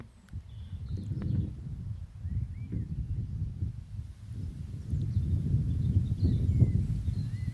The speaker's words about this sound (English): Here we are, outside in my Norfolk garden, my little bit of Norfolk. My nice little bit of corner of Norfolk. And trees, birds. Hope you can hear the birds. There, I stopped talking for a minute so you can hear the birds.